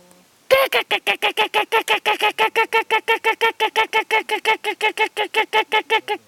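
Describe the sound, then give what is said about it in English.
A sea eagle, locally called Diwana, calls in a long, steady run of loud, harsh honking notes, about four per second, continuing unbroken for several seconds. “Look out, he's coming. He's coming, yeah. That's what he does, see. Sea eagle, eh?”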